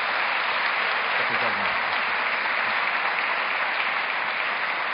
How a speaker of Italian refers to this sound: Ecco, facciamo un applauso, che sono confessati.